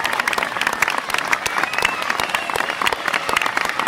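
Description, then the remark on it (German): Dense, sustained applause from a large theater audience at a live performance, many hands clapping at once in a steady loud roar that fills the whole stretch, with a faint murmur of voices mixed in. “Dann gibt es oben einen tosenden Applaus.”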